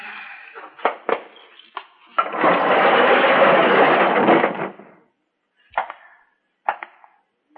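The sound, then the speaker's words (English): A few metallic clunks, then the quick-lift door of an unlighted garage at the back of an apartment building rolls open on a dark, cloudy day with a loud, steady rattling rumble for about two seconds, followed by several sharp knocks and thuds. “My unlighted garage is at the back of the apartment building, but faces out toward the sidewalk in the street, and it has one of those quick-lift doors on it.”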